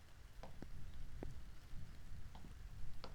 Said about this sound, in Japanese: そこだと濡れちゃうでしょ。中で雨宿りしていきませんか。